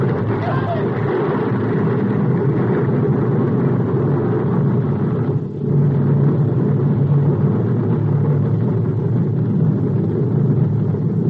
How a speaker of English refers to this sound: Hey, maybe it was loaded on board that train that's pulling out.